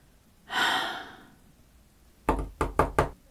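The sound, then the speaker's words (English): A long, weary exhale is followed after a pause by four firm knocks on a hotel room door, loud, in a quick uneven rhythm with no talking. “I'm going to die in this sleazy, disgusting hotel. dying one door knock at a time.”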